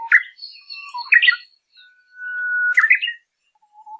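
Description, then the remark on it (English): An uguisu (Japanese songbird) sings a long, steady, level introductory whistle that ends in a sharp, bright syllable flourish, with a few quick chirps before it and a faint trailing note after. “The first has a long introductory whistle ending in a syllable.”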